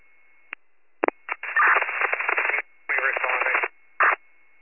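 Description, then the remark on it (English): Radio static crackles in short, tinny bursts: a few quick clicks, then two longer hissing stretches broken by a pause, and a final brief burst, like a garbled transmission breaking up. “Radio static.”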